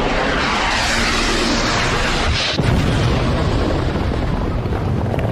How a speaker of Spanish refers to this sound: En el campo de batalla, la guerra de siempre suena así. A mortíferos misiles, a letales explosiones.